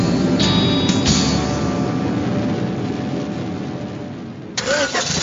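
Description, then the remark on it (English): The engine of a Waibatsu Thunder compact car cranks and roars to life, then revs loudly in a steady, throaty rumble, with a couple of sharper bursts of revving near the start and again at the end. “Knights of the Road, here's your stallion. The car for freedom.”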